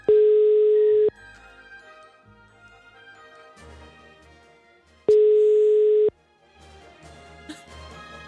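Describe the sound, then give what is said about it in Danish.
A telephone line tone for an unavailable number: two loud, steady beeps about a second long each, four seconds apart, with faint, busy background sound in between. “Det kaldte nummer er ikke ledigt.”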